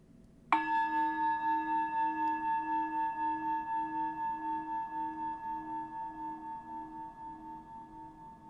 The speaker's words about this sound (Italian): Per iPad, iPhone, questa applicazione si chiama Mindfulness Bell. Ti faccio qui sentire come suona questa campana tibetana virtuale.